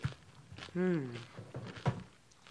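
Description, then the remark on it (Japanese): Crunchy chewing of dried sheet wakame seaweed (ita wakame) that is seasoned to be eaten as is: a few sharp, dull crunches spaced irregularly, with a voiced hum of enjoyment between bites. “このボリボリって音がまたすごくね、美味しそうな音が。”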